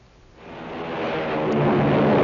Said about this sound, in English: Hear that? It's the sound of a mighty American Airlines flagship taking off. You know, being an American Airlines pilot is an exciting job.